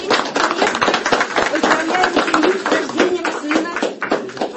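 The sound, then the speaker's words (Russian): Sustained applause from a crowd, dense and steady for several seconds, with faint voices mixed in beneath the clapping, welcoming a family's newborn third child and mother at a ceremony where the parents receive the birth certificate. “Приветствуем третьего ребенка и маму этой семьи. Аплодисменты.”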